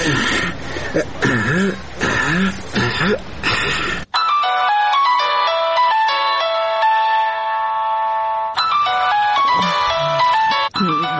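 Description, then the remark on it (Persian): A phone rings with a steady electronic melody for several seconds, loud, with throat-clearing and vocal noises just before and after it. “ببینیم که کی زنگ میزنه.”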